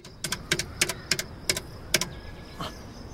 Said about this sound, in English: He underlines the last of a very long list, then gets some coins from his wallet, gives the telephone receiver to Stepan, and puts a coin in the slot and dials.